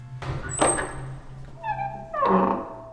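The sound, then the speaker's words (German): A door bumps open with a dull thunk, its hinge lets out a drawn-out creak, and it closes again with a broader rattling knock. The sounds are fairly loud, with no talking. “Rasch durch die nächste Tür.”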